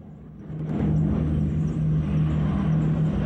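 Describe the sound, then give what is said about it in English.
A transport plane flies over a landscape of pink and white poppies, palm trees and jungle-covered hills in Laos, Southeast Asia, 1969; its engines drone overhead, a deep, steady rumble with a throbbing low hum that swells in the first half-second and then holds loud and even, with no voices. “A transport plane flies over the scene.”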